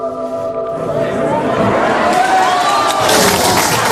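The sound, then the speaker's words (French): A crowd in the European Space Agency control centre erupts in cheers and applause as the Philae robot confirms its safe landing on the comet, a dense wash of clapping and excited voices that swells louder midway through and stays loud to the end. “Le moment est historique et c'est une belle raison pour applaudir.”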